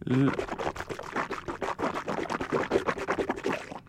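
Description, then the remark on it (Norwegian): Water splashes and gurgles steadily into a glass for several seconds, a continuous bubbling pour, with a brief vocal sound at the very start. “Her kommer et glass vann.”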